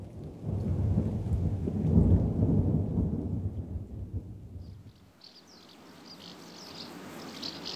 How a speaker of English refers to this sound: You can't go back to Blaweary till the storm dies down